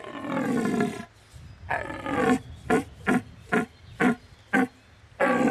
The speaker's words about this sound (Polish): I jeleń wydaje ten głos, taki potężny, mocny, stwierdza swoją obecność, ale też pokazuje, że jest panem i władcą nad tym haremem. I ten głos też ma w pewnym sensie duże znaczenie.